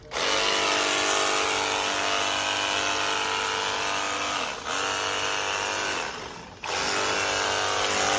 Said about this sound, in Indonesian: Mari kita coba seberapa kencang semprot. Jet steam ini juga dilengkapi tabung semprotan sabunnya guys. Jadi kalian cuma tinggal isi sabun kayak gini, terus kasih air, langsung aja semprot ke bodi motor atau mobil kalian guys.